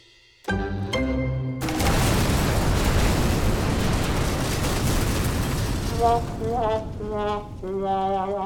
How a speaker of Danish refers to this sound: Og få minutter efter, at de er kommet væk fra det store, flotte, men brændende skib, altså jydehaderen, så eksploderer det i et kæmpe brag. Nu skal du holde dig for ørerne.